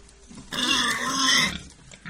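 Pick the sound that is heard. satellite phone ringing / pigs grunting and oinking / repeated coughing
pigs grunting and oinking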